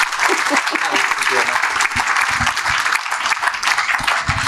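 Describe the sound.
An audience applauds steadily, a dense, even wash of many hands clapping that holds at a constant loudness for several seconds, with faint voices murmuring underneath.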